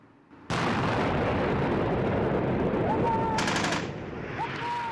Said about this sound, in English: The Humvees are attacked with rocket-propelled grenades and gunfire. Militants scream, "God is greater," as they fire their weapons.